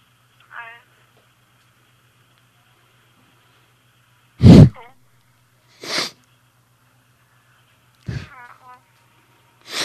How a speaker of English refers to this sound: What are you doing? Trying not to sneeze.